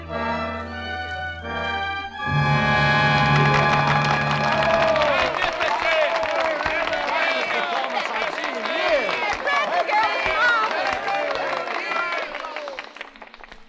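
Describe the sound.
A brief musical chord gives way to loud, sustained applause from a large audience at the end of a stage performance, mixed with cheering voices that continue steadily for about ten seconds.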